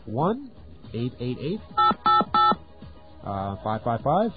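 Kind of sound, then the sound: signal or alarm, telephone number being dialed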